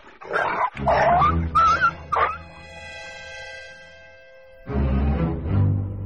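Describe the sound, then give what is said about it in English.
A big dog named 布鲁 (Blu) barks several times in quick, loud bursts with a few whiny yips, then a long tonal pause before a deep, rough bark closes it out. “那你有像布鲁这么大的狗吗？”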